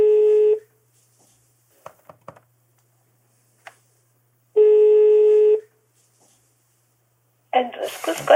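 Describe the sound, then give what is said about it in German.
A telephone line rings with two long, steady tones separated by a pause, a few faint dialing clicks in between, as a number found in the phone book is called, before a voice begins speaking at the end. “Im Telefonbuch finde ich ihre Nummer.”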